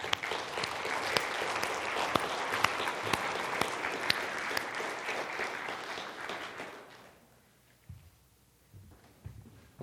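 A crowd claps steadily in a dense, bright wash of many hands for about seven seconds, then the applause fades out, leaving near-silence with a few faint low thumps.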